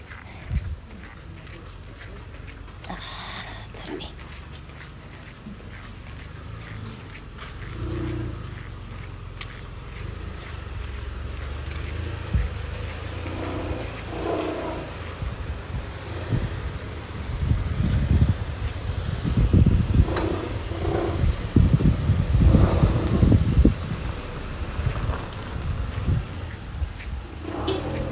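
Low engine rumble swells outdoors as cars squeeze past each other on a very narrow road, growing louder toward the end, with wind buffeting the microphone and occasional faint clatter.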